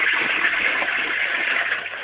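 household object, toilet flushing

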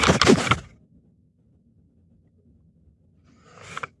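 household object, door slamming shut

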